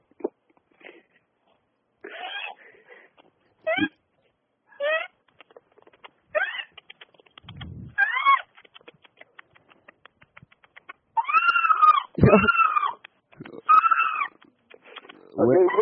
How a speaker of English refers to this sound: We're going to have the first national broadcast of a dolphin. Oh. Wait a second. Let's see if he's here. Come here, Bookjoy.